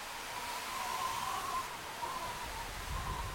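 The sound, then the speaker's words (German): A hand-cranked wind machine, its supports braced with two struts resting on shoe soles, produces a steady rushing hiss with a thin, wavering whistle riding on top, imitating a howling wind. The sound holds at an even, moderate level throughout. “Man braucht den Apparat nur mit Hilfe einer Kurbel zu drehen, um so das langgezogene Pfeifen und Heulen des Windes zu imitieren.”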